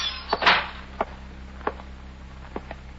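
A sun-warped screen door of a dilapidated waterfront hotel clatters open as a man enters the lobby: a quick rattle and a brief scraping rush, followed by several lighter taps and knocks spread over a few seconds, over a low steady hum.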